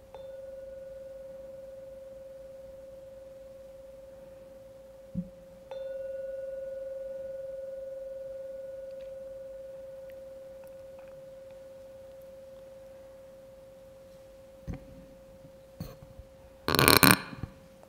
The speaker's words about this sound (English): So with that, I'm going to ring the gong 3 times. And on the sound of the last gong, you can gently come out of your meditation and open your eyes.